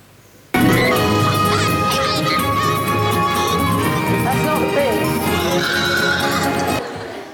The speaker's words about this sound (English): No, this is a little snippet from the film when the pigs suddenly go wild. Okay. So this is my favourite bit, actually.